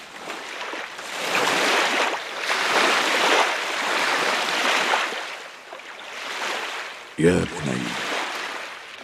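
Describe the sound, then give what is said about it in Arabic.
Ocean waves roll in and break on a beach in loud swells every couple of seconds, with a short tonal cry briefly rising over the surf near the end. “فذهب الآن، اذهب إلى الشاطئ وامشي مقدار ساعة واملأ صدرك برائحة البحر واملأ عينيك بأمواجه اللاهية.”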